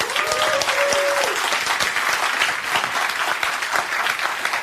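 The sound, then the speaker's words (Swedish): An audience applauds warmly to welcome a panelist on a panel show, a dense, steady wash of many hands clapping that holds at an even loudness throughout, with a brief high tone sounding faintly at the start. “Gott folk, ge en varm applåd till Ina Lundström.”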